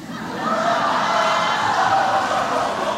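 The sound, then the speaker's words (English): A large crowd gasps and reacts at once as New York governor Andrew Cuomo rebukes the president's Make America Great Again slogan, a loud, dense wash of many voices that swells within the first half second and holds steady for several seconds. “The governor of New York, Andrew Cuomo, he shocked the crowd when he rebuked the president's Make America Great Again slogan, and the crowd gasped.”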